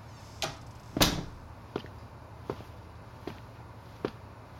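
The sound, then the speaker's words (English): A door swings shut with one solid thud, surrounded by a few lighter knocks or footsteps spaced out over several seconds. “Close the door.”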